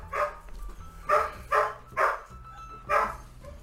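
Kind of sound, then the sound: animal, dog barking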